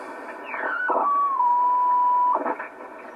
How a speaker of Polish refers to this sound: Zaraz lecimy. Na telegrafii coś. To jest na alfabetem Morsa, to właśnie.